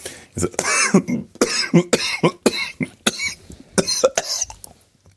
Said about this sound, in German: Oh Gott, Hilfe. Dabei habe ich eigentlich gedacht, dass diese Hustenanfälle vorbei sind.